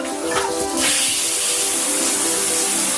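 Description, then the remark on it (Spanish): A shower runs in a bathroom with a steady, dense hiss of spraying water that swells in the first second and then holds constant and loud throughout. “El agua corre llenando el baño”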